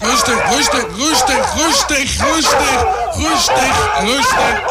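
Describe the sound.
A rapid, steady run of loud barks, about two per second, repeating evenly throughout over a busy, noisy background with a murmur of other voices.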